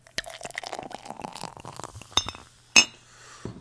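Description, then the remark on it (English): A cherry beer made with 15% cherries glugs and splashes into a glass for about two seconds, the pour rising slightly in pitch as it fills, followed by two sharp glassy clinks and a soft knock. “Just pour it out.”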